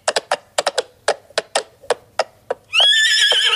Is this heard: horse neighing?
yes